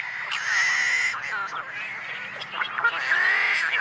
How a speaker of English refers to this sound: Are the combined voices of tricolored blackbirds in a California marsh.